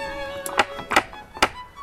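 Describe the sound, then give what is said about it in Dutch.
Three sharp metallic knocks from a door knocker on the door of a small old church in Groningen, Netherlands, which has no bell. The knocks are unevenly spaced, each a quick hard rap over a low steady background hum, with a faint tap or two just before them. “Maar wel een klopper.”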